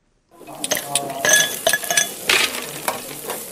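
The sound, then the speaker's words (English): Ice cubes clink and rattle into a glass to cool a drink in a quick, irregular burst of bright chimes, over a faint sizzling hiss of meat on a barbecue, on a hot Sunday afternoon in a suburb north of Cape Town, South Africa. “Meat sizzles on the barbecue, ice hits a glass to cool a drink.”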